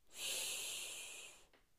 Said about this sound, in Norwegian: Da tømmer vi hodet aller, aller først. Og det gjør vi med å puste dypt inn.